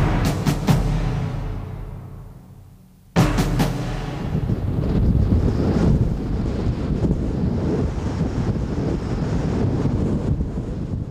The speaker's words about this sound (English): The wind coming off the English Channel onto the Normandy beaches is always brisk, sometimes very strong. It seems to whip ferociously up the steep cliffs at Pointe du Hoc, a rock face climbing dramatically from the water with waves crashing